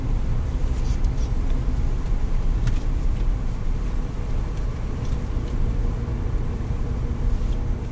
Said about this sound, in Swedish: Bussen far fram i natten. Bensträckaren i Ödeshög har gjort att alla har kommit till ro och somnat. Det sövande ljudet från däcken som rullar på asfalten är det enda som hörs.